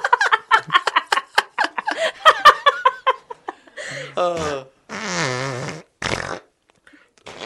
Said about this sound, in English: That'd be funny out of context. Just fart noises.